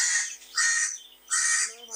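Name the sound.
crow cawing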